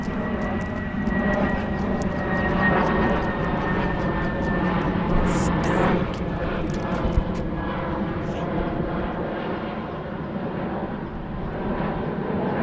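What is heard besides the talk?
airplane flying overhead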